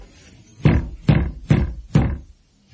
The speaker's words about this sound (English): Knock at the door. Something's being locked away inside. That makes me curious. Knock again.